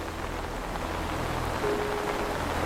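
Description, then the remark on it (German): Steady rain patters on a surface, a dense, continuous hiss with a low rumble underneath and no voices; a faint tonal hum rises briefly near the end. “Mit einer sanften Stimme heißt er dich willkommen und unter dem Schutz des Regenschirms geleitet er dich zum prächtigen Eingang.”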